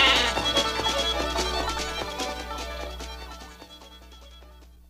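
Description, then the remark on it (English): A flock of sheep bleating, many overlapping cries, fairly loud, gradually fading toward the end over a low steady hum, with no one talking. “That and go out with the boys and chase sheep on Friday night. got one.”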